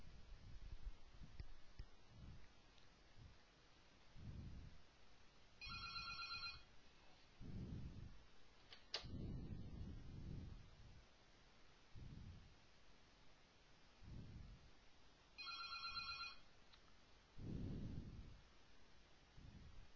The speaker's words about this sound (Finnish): Iski oikein luentodemo-efekti, puhelin soi.